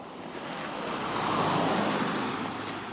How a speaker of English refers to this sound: As you can tell, I'm back down at the road now again, and the cars are zooming each way.